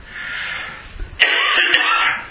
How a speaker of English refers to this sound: And I cannot stop coughing.